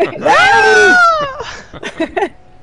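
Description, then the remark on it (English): A person lets out a loud, drawn-out imitation of the Wilhelm scream lasting about a second, its pitch falling at the end, followed by brief chatter and laughter from others. “We all suck at Wilhelm screaming.”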